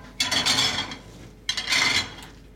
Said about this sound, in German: räumt Teller in den Geschirrspüler.